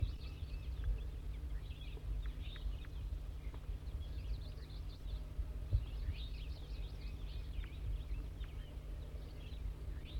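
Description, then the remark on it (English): A wild brown bird, either a female or a juvenile, perched in Servsbury, gives faint, short buzzy 'zezer' call notes in two loose bursts, high-pitched above a steady low rumble, with no talking. “Wild bird's now giving zezer notes.”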